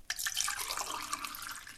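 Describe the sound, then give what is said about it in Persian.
A steady stream of water is poured into a drinking vessel for a thirsty man, splashing and gurgling continuously with bright, bubbly trickling and no talking. “زن، اندکی آب بیاور که سخت تشنه شدم.”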